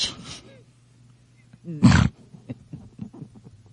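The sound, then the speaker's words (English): A toy unicorn, set off by touching its ears, lets out a single short, loud electronic roar, a harsh growling burst lasting about a quarter second, with brief speech before and after it. “It's a unicorn, and it does ferocious things when you touch the ears.”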